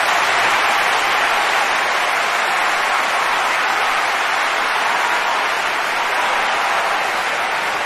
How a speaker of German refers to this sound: Und ja, das hier ist nochmal dein fetter Applaus, der ist nur für dich.